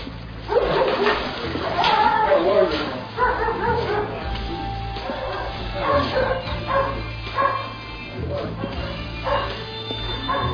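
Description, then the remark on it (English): A dog barks repeatedly in energetic bursts, mixed with a few higher yips and whines, while indistinct voices murmur and a steady low hum runs underneath. “Oh, good dog.”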